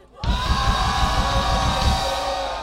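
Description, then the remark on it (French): A concert crowd screams and roars loudly and continuously, a dense wall of shouting voices that swells in suddenly and holds steady for a few seconds, a huge shout to launch the band's last song. “Et j'aimerais lancer ce morceau avec un énorme cri, le vôtre. Crie un peu pour moi!”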